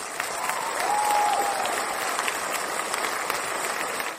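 A crowd applauds steadily, a dense wash of many hands clapping at once that holds a fairly even level for a few seconds before tapering off at the end. No one speaks over it.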